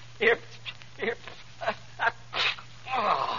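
A fit of sneezing: six or seven short, sharp bursts in quick, uneven succession, then a longer, breathier one at the end, all fairly loud over a steady low hum.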